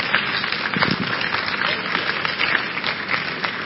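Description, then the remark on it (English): An audience claps steadily for a few seconds during a sermon, a dense, even patter of many hands at a fairly loud level with no voices over it. “You don't clap for such things.”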